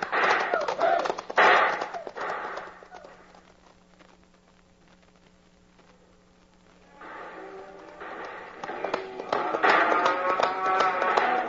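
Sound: horses galloping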